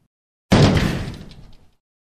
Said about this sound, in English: And with one kick, Crusher broke open the heavy door.